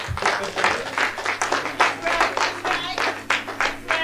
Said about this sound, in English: Yeah, clap it up. That's right.